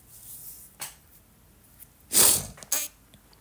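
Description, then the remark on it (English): A person sniffling during a morning show recording, with no talking: a brief faint sniff, then a louder, longer snort-like sniff quickly followed by one more short one. “Because I sniffle, so you've been warned.”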